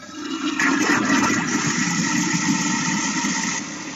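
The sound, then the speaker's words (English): A toilet flushes with a 9-volt battery dropped into it, a loud rushing whoosh of water that starts abruptly, holds steady for about three seconds, then tapers off; no one speaks. “someone from the Charlotte Utilities office is hearing what you're flushing down the toilet and cussing you”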